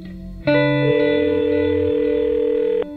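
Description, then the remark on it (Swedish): A single steady electronic telephone tone, like the ringing signal of an outgoing call, sounds for over two seconds at moderate volume, with faint low notes shifting underneath and no talking; an outgoing call to a sports psychologist in Phoenix, Arizona, USA. “Jag ringer upp den amerikanska sportpsykologen James Affermo i Phoenix i delstaten Arizona”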